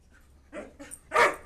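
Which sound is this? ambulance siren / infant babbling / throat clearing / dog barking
dog barking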